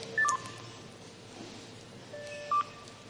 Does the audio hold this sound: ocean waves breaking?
no